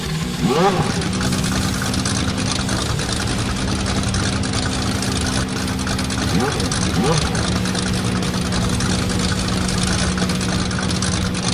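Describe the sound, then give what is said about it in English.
Car engines are started for a race and rumble at a steady idle, loud, with a couple of quick revs rising and falling near the start and again partway through. “Gentlemen, start your engines.”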